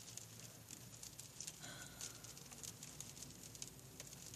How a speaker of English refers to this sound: It's gray and cloudy and rainy.